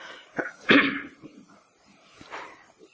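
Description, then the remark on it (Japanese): A harsh cough from someone with a cold lingering since the end of the year bursts out after a brief catch of breath, followed by a quieter second cough a moment later, with no talking around them. “年末からの風がまだ少し癒されていなくてですね、時折こう咳払いをしたり咳込むことをお許しいただきたいと思います。”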